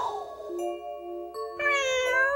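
A cat meows in a long, drawn-out call that rises into a louder, higher second cry, clear with no other sounds around it.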